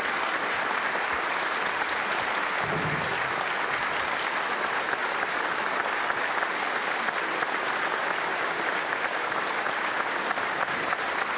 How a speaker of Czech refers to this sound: Já ty potlesky moc neměřím, ale tenhle byl takový, že já nevím, na koho jste teď obrátit.